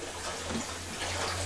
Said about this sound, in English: It's water. That water. Don't touch.